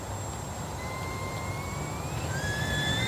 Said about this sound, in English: Ooh. It's a tea kettle fart. It worked. It's a tea kettle fart. It's a dick trumpet.